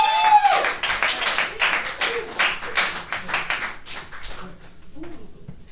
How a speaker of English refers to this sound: Hey, thanks for clapping and everything. I appreciate you guys doing that. I really do.